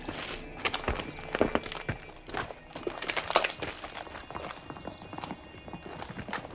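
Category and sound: animal, horse hoofbeats approaching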